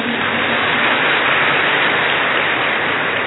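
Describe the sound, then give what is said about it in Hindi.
A large crowd of mothers at Baba's assembly applauds steadily for themselves, thousands of hands blending into a dense, even roar like heavy rain, holding loud and unbroken throughout with no voices over it. “देखो ये बाबा की सभा की ब्यूटी है, ताली बजा दो अपने लिए।”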